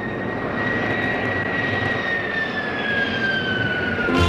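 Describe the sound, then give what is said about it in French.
A loud, steady jet engine roar with a high whining tone that slowly falls in pitch as an airplane takes off at 9 a.m. on a Sunday, with no voices. “Et bien voilà, l'avion a décollé comme tous les dimanches à 9h.”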